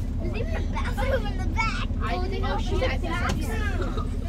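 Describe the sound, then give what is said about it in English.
Several children, students from the Radiant STEM Academy parochial school, chatter and call out over one another above a steady, loud low engine drone of a bus travelling to Austin, the babble lively and continuous throughout. “Later, on the bus to Austin, the kids relax.”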